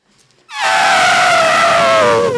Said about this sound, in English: spell the sound an elephant makes.